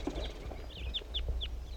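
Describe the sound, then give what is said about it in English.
A wild male bird calls in a quick series of four or five short, high, down-slurred whistled notes, fairly evenly spaced and faint over a low, steady rumble. No one speaks. “wild male bird that was just singing.”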